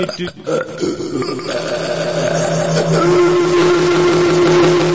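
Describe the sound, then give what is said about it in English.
A long, loud belch drones on for several seconds, a steady low rumbling tone, with a bit of scuffling noise at the very start. “The amazing belching submarine, folks.”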